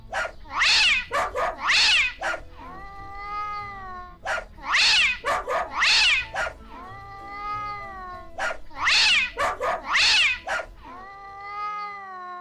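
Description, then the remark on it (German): Loud pairs of sharp barks from the dog Synkopus and hisses from the tomcat Tritonus alternate with drawn-out cat yowls. The pattern repeats three times in a steady rhythm, with no talking. “Welchen Rhythmus haben da der Hund Synkopus und der Kater Tritonus gebellt und gefaucht?”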